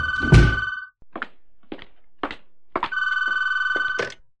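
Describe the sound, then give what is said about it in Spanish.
A door is shut with a single heavy thunk on someone delivering a court summons, while a telephone rings. Short clicks and knocks follow, then the shrill ringing starts again and holds for over a second. “Le tengo que cerrar, me está sonando el teléfono.”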